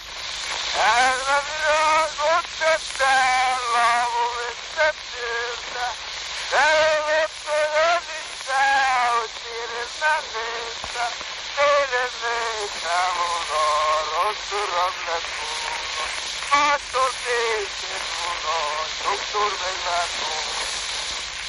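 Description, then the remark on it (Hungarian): A classic phonograph recording of a voice singing a folk melody, thin and muffled, buried in constant hiss and crackling surface noise throughout. “Elsőként egy klasszikus fonográf felvételt hallunk.”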